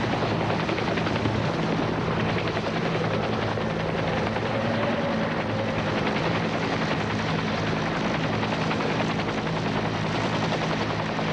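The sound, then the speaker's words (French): A helicopter carrying a patient arrives at a private landing pad, roaring steadily, its rotor thumping in a fast, even chop over a loud engine whine that holds constant throughout, with no voices. “On sort de l'hélicoptère le malade qui est tout de suite mis dans l'ambulance.”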